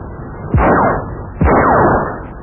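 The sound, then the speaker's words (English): Two loud gunshots, evenly spaced less than a second apart, each a sharp bang trailing off into a falling, fading tail, fired by Somerville and Mr. Watts out shooting. “Well, Somerville's still out shooting, and he's been joined by Mr. Watts, as you can hear.”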